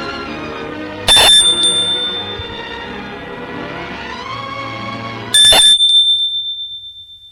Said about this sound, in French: Et de son autre main, il appuie sur la sonnette.